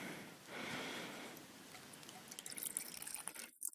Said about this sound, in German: Dann soll man 30 ml, ich habe hier kaltes Wasser vorbereitet, in den Raketenbecher kippen.